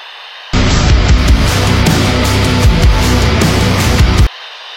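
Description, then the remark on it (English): A loud burst of crackling radio static cuts in abruptly, hisses and roars steadily for nearly four seconds, then stops just as suddenly. No one speaks. “So, without further ado, hit the static.”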